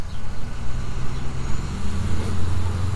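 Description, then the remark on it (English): Steady low rumble of road traffic at Ewing Avenue on a 32-degree morning, with cars and heavier vehicles rolling past, engines droning continuously for a few seconds with no one speaking. “Looks like we've got the traffic, so we're going to go ahead and go.”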